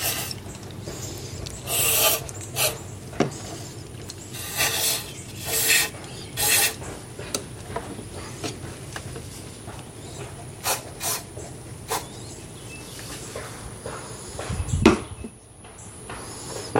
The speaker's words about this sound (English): Okay, take the toothbrush and rub again. It's coming off a lot cleaner this time, but now let me open up the where the grime is behind that little floppy door.